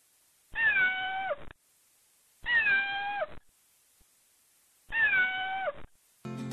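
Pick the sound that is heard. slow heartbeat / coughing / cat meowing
cat meowing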